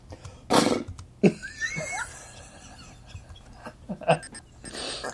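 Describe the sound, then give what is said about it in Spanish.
A person imitates a horse's whinny with a short, wavering, high-pitched neigh, fairly loud, set among breathy bursts and scattered noises. “Ahí sí, como caballo.”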